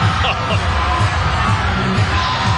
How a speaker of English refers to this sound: Uh-oh, the crowd going crazy for Mavs coaches Dwayne Casey and Terry Stotts.